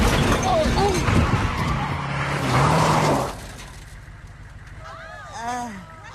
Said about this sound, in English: They peel around a sharp curve.